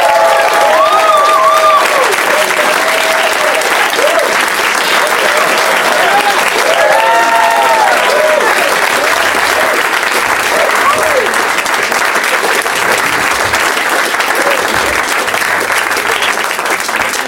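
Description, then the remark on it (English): Loud, sustained applause from the audience of a live Doug Loves Movies show on a hot August day, as three guests and Leonard Maltin are welcomed out; a dense steady wash of clapping with a few whoops and cheers rising briefly above it early on. “No, but they clapped hard.”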